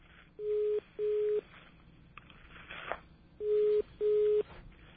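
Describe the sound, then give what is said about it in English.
A phone ringing heard down a telephone line: two double rings, each a pair of short, steady mid-pitched tone bursts separated by a pause, over a faint hiss. “You might hear the phone ringing. That we hear.”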